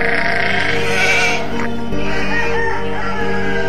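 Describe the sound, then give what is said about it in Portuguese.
Sheep and rams bleating loudly, one long wavering bleat followed by another overlapping cry, with no talking. “Juntou as suas ovelhas e os seus carneiros.”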